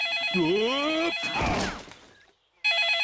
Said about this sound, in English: What's that noise? Daddy Pig's mobile phone is ringing.